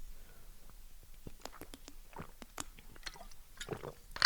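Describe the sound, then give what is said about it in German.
Someone takes a sip of water: a quiet run of short, wet mouth clicks and swallowing noises at an irregular pace, with no talking. “Ich bin schon jetzt fertig, ich muss einen Schluck Wasser trinken.”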